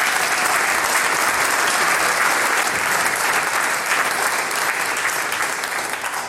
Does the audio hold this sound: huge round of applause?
yes